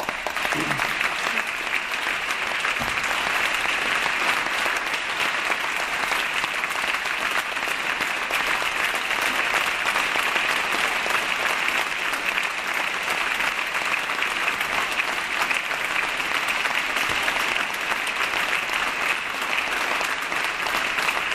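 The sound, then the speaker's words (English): Sustained applause from the California legislature during a speech about the state budget, a dense, steady wash of clapping that holds at an even, loud level for over twenty seconds without letting up. “Let's not applaud too much.”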